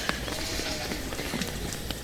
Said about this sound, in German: Hört ihr das Scheppern gerade? Das war eine der Ziegen, die ihren Bauch am Zaun gerieben hat und sah auch gerade fast so aus, könnte schwanger sein.